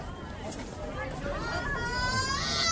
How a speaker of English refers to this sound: No, it's her. It's her. She's screaming.